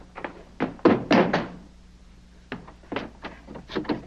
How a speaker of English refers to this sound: I want to use your cabin to get a running start and break his door down. Right. Okay, ready, set, go.